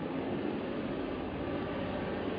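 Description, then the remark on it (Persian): A steady, unbroken rumble of passing car traffic, a dense low roar with hissing mid tones and no distinct horns or voices, holding an even loudness throughout. “این صدای ماشین ها صدای بلندگو را مختل نمی کنه که، چون وقتی من این صدای ماشین ها میشنوم میگم داد بزنم، میشنوید؟”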